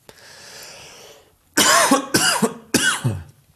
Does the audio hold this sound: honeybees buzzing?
no